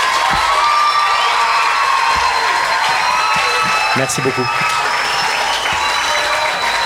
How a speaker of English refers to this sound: Donc vous pouvez encore un tonnerre d'applaudissements, s'il vous plaît.